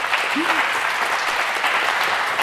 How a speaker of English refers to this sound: But first, before the questions, may I start with a huge applause for these three specialists.